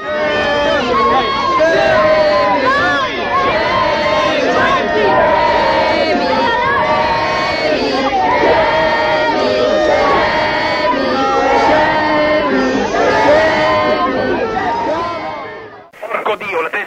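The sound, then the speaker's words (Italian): A loud crowd of street demonstrators in via Risoli shouting together as they close in on the police toward the two towers, many overlapping voices rising and falling in a steady roar for about fifteen seconds before cutting off abruptly. “qui in via Risoli all'inizio i dimostranti hanno chiuso la polizia”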